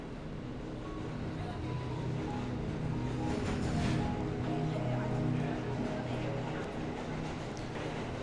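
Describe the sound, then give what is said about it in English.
A subway train, the E train headed toward Roosevelt Station, rides along between stations, filling the space with a steady, loud rumbling roar and a droning mechanical hum that swells slightly midway and never lets up. “So we are on the E train headed toward Roosevelt Station.”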